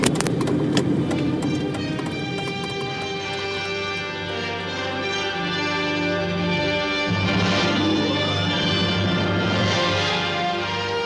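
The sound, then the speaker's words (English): A car drives through city traffic on Crenshaw Boulevard in Los Angeles, making a right turn, its engine a steady droning hum that shifts pitch partway through as it changes speed. No one speaks. “So I think I'm just gonna try and find a way to lose this guy up here in a sea of traffic.”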